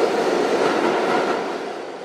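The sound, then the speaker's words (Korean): A subway train rumbles steadily into the World Trade Center (WTC Cortlandt) subway station in New York, where trains run again after 17 years, a dense, roaring rush of wheels and motion that stays loud before easing slightly toward the end. “17년 만에 다시 열차가 들어오게 된 세계 무역센터 지하철역.”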